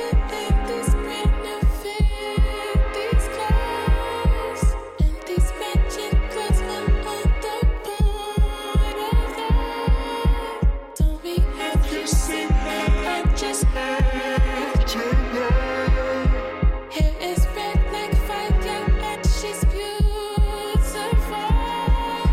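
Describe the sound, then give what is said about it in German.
A steady electronic kick drum pounds out a four-on-the-floor beat, loud and evenly spaced, thumping under a dense layer of synths and tonal music with no talking. “Dazu kommt eine Elektro-Bass-Drum mit 4 on the floor”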